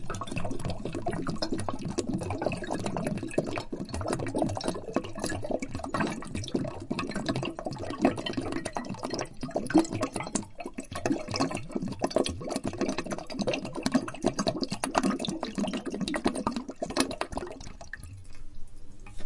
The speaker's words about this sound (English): My dad says the only thing you can do, son, is pour that down the drain so it don't tempt you no more. So I guess I better pour this 12-year-old Scotch whiskey right down the drain, get rid of it.